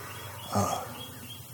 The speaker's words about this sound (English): He's never heard turkeys like this. I'm going to try to show him the ropes. There's a hen, and there's another hen. One to the south, one to the north.